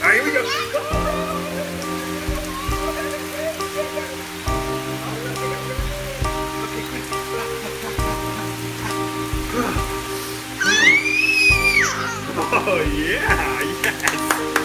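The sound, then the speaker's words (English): Steady rain patters on a surface, a continuous hiss lasting throughout, mixed under louder music with changing chords and a rising, whistle-like vocal sweep near the end. “We're gonna go out there in the rain. Gonna get wet.”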